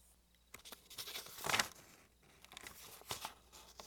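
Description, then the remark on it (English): Old papers (old mail, scrap paper and pages torn from books) being shuffled and rummaged through, a steady run of dry rustling and crinkling with a louder crumpling burst midway, fairly quiet overall and with no voices. “What do you suppose all these papers are?”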